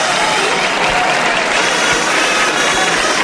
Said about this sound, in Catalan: Aplaudiments i mans dels mateixos membres de la colla demanant a la plaça, si sisplau, aplaudint-nos, perquè aquest no és el castell màxim, el castell top que hem vingut a mostrar-vos.